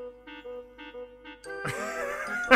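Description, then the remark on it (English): A chiming bell sound effect rings out in a few evenly spaced tones, then gives way to a louder, busier burst of whistling, jangling effects near the end. No one speaks. “We have all the whistles and bells.”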